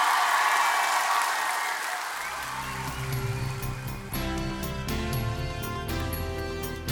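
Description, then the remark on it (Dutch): A crowd applauds for Jesus in a dense, steady wash of clapping. After about two seconds, music with sustained tones joins underneath while the clapping carries on at full strength. “Zullen jullie Jezus een applaus geven?”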